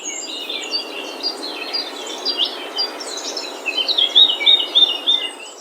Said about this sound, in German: Okay, das ist irgendwie Vogelgezwitscher, oder?